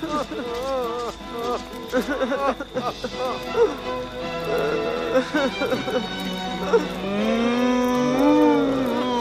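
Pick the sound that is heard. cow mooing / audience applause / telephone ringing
cow mooing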